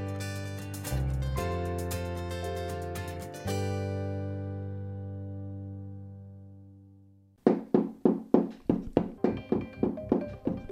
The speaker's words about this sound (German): In dem Moment tut sie klopfen und wahrscheinlich hat sie Freude am Klang, den sie jetzt da gerade erzeugt. Machst du jetzt Musik? Willst du nur mit dem klopfen? Es tönt vielleicht ein bisschen anders.